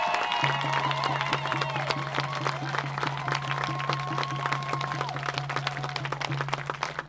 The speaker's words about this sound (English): Give them all a round of applause again, man. I mean, they're the ones who make this happen.